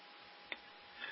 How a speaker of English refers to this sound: You know, I was watching this secondhand. I've got an atomic clock in the studio, and it's a, you know, it's an analog type clock. And I was watching the secondhand as you said that.